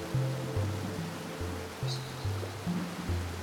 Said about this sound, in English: Now you see yourself hovering above a waterfall. Watch the river flow and move. As the roar of the water fills your ears, place yourself on the edge of that flowing water.